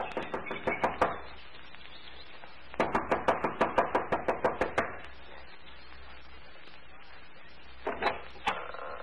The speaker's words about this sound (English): runs up the steps of the lodge to the front door. She knocks impatiently, looking about anxiously.